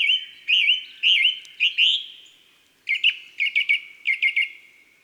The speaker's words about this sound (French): Et maintenant, révisons les chants de nos oiseaux de février. D'abord, la grive musicienne, ici en compagnie d'une mésange bleue. Chant puissant, plein d'exclamations, avec des répétitions de motifs variés.